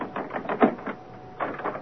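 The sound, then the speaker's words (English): A door lock on the third floor of Thornfield Hall being worked open: a quick series of metallic clicks and rattles, loudest in the middle, then a brief pause before a second burst of clicking. No voices. “Grace, Poole, unlock the door.”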